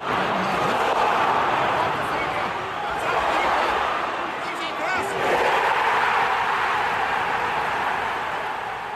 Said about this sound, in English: This audio was captured from the stands, and it captures one of the most vivid, brilliant examples of a crowd shouting, go on. And it happens twice, and it's great.